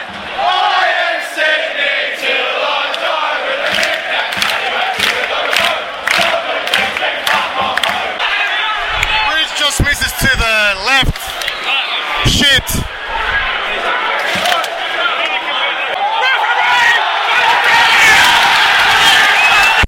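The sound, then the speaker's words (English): A loud, rowdy football crowd in the Cove supporters' section shouts and cheers continuously after Melbourne takes a 1-0 lead, with overlapping yells, whoops and bursts of chanting, punctuated by a few sharp thuds or slams in the middle. “It's getting a bit mental in the Cove.”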